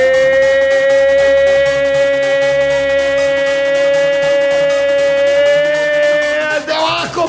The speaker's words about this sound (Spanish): Para sirenas, las nuestras.